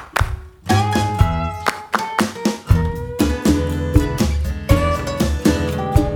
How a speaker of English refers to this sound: Clap a friend's name with me. Name with me. Name with me. Clap a friend's name with me. Let's clap.